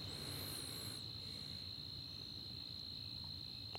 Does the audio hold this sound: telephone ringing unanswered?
no